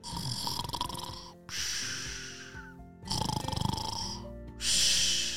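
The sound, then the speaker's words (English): A voice imitates Fluffy the chicken snoring, four drawn-out, raspy snores in a steady rhythm, each a loud, noisy breath followed by a short pause. “Have you ever heard a chicken snore?”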